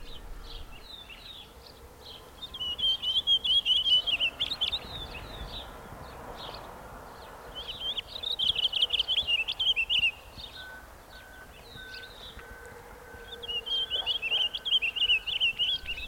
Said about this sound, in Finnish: Näin kauniisti jokeltaa taviokuurna. Taviokuurna on salaperäisimpiä lintujamme. Melkein laulurastaan kokoinen, suurin peippolintu, peipon lähisukulainen, siemensyöjä. Sukua myös käpylinnuille ja vähän niitä muistuttaakin.